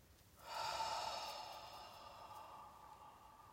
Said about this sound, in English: And then go slightly beyond the uncomfortable. And then breathing out through your mouth.